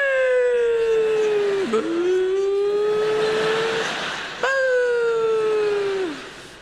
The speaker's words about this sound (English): And you're vacuuming along. Normally, if you're vacuuming, you've got good, strong vacuum. That's good. And sometimes you hear that noise.